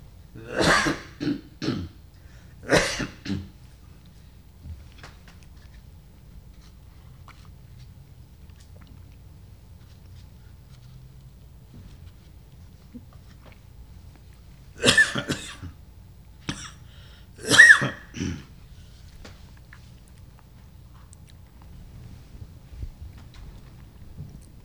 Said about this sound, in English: Excuse me, I'm going to try clearing my throat here.